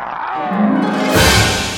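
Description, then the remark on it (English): A beast's loud roar from off stage that builds from a low rumbling growl into a harsher, breathier blast, lasting nearly two seconds with no talking. “Beast roars from off stage and then enters.”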